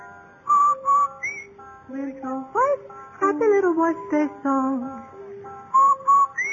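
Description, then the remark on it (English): Someone whistles a bright, bouncy jingle with sliding notes and a steady rhythm, clear, some notes doubled, with no talking over it, in a radio advertisement for Rinso laundry soap, whistling while doing the wash. “No wonder Rinso users whistle while they wash.”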